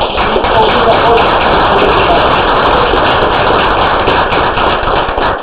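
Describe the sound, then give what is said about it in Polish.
An audience at a Sławków scholarship award ceremony applauds a sports scholarship recipient steadily for about five seconds, a dense, loud patter of many hands clapping at once with no pauses and no voices rising above it. “Także wielkie brawa na szczeblu.”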